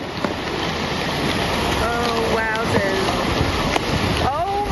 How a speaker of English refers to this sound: And one of the things that I've enjoyed the most so far is hearing the ship actually crunching through the ice.